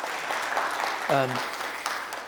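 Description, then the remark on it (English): An audience claps steadily throughout, a dense crackling wash of applause, with a single voice briefly whooping or calling out partway through. “But yeah, round of applause.”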